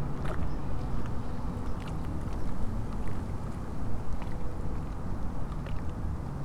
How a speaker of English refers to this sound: The main feeling I got from standing there was relaxation from the warm sun and listening to the water.